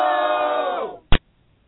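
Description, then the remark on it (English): A loud crowd at a wrestling event roars for about a second, the noise dropping in pitch as it fades out, followed by a single short sharp burst and then silence. “You can even hear the crowd.”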